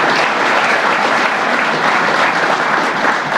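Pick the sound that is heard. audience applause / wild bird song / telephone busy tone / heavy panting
audience applause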